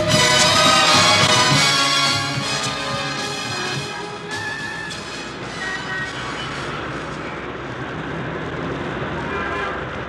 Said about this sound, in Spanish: La ciudad hierve de luces en esta hora de la noche. Las calles están llenas de carros que se mueven de derecha a izquierda. La gente pasea despacio en la alargada avenida Caracas.